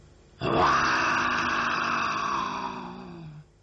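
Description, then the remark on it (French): A single long, rough growl held for about three seconds, loud and harmonic, sinking slightly in pitch before cutting off, most likely a human voice imitating a big tiger in a children's story. “C'est un tigre, un gros tigre.”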